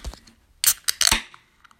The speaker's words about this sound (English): So with that said, let me open this can.